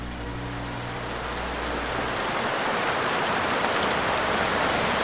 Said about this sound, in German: Es sind nur Tropfen, die ans Fenster klatschen, doch in ungeheurer Dichte und Fülle.